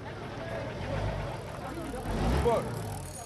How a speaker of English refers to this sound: Perpetual activity on and around the water drowns out just about everything but the loud hum of the engines of vessels berthed at the port.